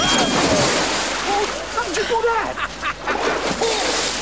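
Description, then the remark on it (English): A loud splash of an elderly man dropping into the water of a dunk tank after a thrown ball hits the target, followed by churning, sloshing noise while several voices shout and talk over it. “He hits the target, dropping Grandpa into the water.”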